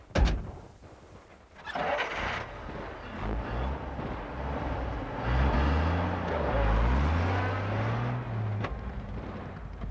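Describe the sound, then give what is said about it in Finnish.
A car engine starts up and revs as the vehicle pulls away and disappears behind a bend in the road, its low rumble rising and shifting through gears, with wind noise over the microphone and no voices. “Pitkän aikaa seisoi Koskela äänettömänä paikallaan vielä senkin jälkeen, kun auto oli kadonnut tienmutkan taakse.”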